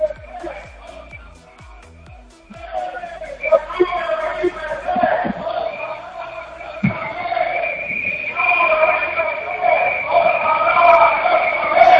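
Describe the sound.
A street protest march in A Coruña, heading from the bus station toward the city centre: a dense crowd of voices with shrill whistles and sustained horn-like tones, the din building steadily louder over the twelve seconds.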